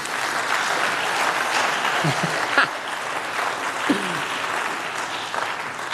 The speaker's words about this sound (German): Hey, danke euch. Einen wunderbaren Applaus.